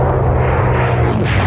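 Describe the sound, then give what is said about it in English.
A P-51 propeller racing plane's piston engine roars loudly and steadily, a deep, rumbling drone that is continuous throughout, with no voices, during an action test of a new Bardol power concentrate additive. “Action tested in a Bardol P-51 racing plane.”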